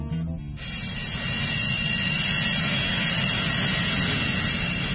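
A loud, steady roar of a jet airplane engine fills the whole recording, with a deep rumbling low end and a thin high whine running through it, no voices present.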